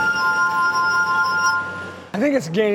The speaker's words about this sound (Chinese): 以演奏玻璃琴为生，甚至还和美国顶尖乐团合作过。不过会演奏玻璃琴的人太少了，